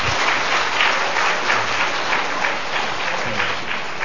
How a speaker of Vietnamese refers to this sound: Xin dâng lên Chúa một tràng pháo tay tạ ơn.